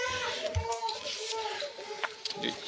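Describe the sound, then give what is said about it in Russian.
A small child cries in sustained, wavering wails, carrying on steadily for the whole moment with some faint background noise. “Маленький плачет. Да, маленький заплакал сейчас.”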